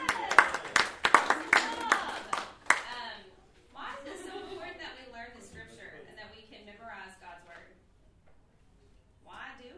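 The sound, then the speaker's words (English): A short, loud round of applause from a small group for a person who recited a Bible verse, sharp irregular claps lasting about three seconds, then fading as people start talking. “Tonight, so y'all give him a round of applause.”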